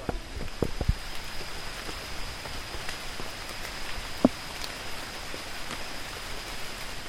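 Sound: rain falling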